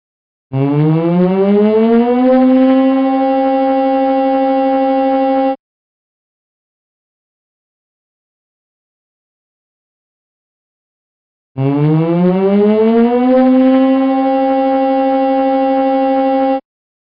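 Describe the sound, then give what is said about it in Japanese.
A tsunami warning siren sounds twice, each blast rising in pitch to a loud, steady harmonic wail for about five seconds, with a long silent gap between them. “津波警報、津波警報、津波警報、津波警報。”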